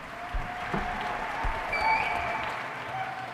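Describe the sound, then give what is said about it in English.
A crowd applauds in a steady, dense wash of clapping that holds throughout, with a few faint whistles or cheers rising above the noise. “Oh, there's the crowd eating it up.”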